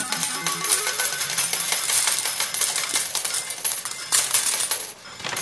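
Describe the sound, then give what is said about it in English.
A slot machine pays out a jackpot, coins clattering and jingling in a continuous metallic stream for several seconds, loud, with a faint melodic chime in the background. “Jackpot! Just like that.”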